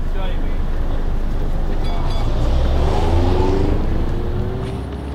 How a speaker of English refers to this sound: Look out, there it is. It has four wheels and a door which people can get on and off. Here it is, the bus.